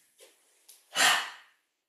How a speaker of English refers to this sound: Center, breathing in, breathe out, breathe in, breathe out, breathe in, and breathe out.